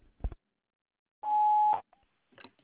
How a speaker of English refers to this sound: Please leave your name, telephone number, and a brief message after the beep, and I'll return your phone call as soon as possible. Thank you.